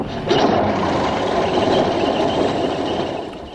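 A petrol fire engine, running on the same petrol used in Spitfires, starts up, its motor catching after a brief moment and settling into a loud, steady, rumbling roar that runs unbroken to the end.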